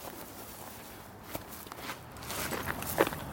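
footsteps walking

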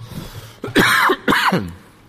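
coughing and throat clearing

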